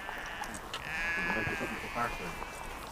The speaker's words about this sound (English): Oh, there's a heap of sheep out there. I think there's about 90 out there, or 100.